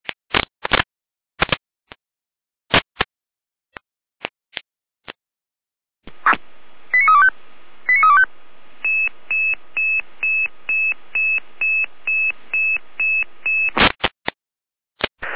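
Radio dispatch alerting tones from the Saalfeld dispatch centre in Germany, alerting the Saalfeld fire brigade: sharp clicks and bursts of squelch, then a couple of two-tone chirps followed by a long train of evenly pulsed, loud beeps, ending in more static bursts.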